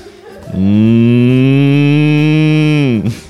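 A single loud, sustained cow moo lasting about two and a half seconds, steady and droning with a slight pitch drop as it ends, with no talking.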